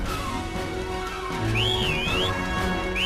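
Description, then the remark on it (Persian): A person whistles a wavering, sliding tune in two short phrases, the second starting near the end, over a steady background hum and low rumble. “میشه سوت نزنی؟”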